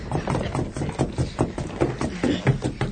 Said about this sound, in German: Auf, Kollegen! Trampelt auf dem Boden herum, bis ihr eine Stelle findet, die auffallend klingt. Los, fangt an!